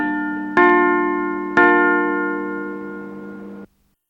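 A bright electronic bell chime on the Voice of the Islamic Republic of Iran radio from Tehran sounds three clear strikes, the last two about a second apart, each ringing on in a sustained, overlapping tone before stopping abruptly, just before the nine o'clock morning time announcement. No voices are heard.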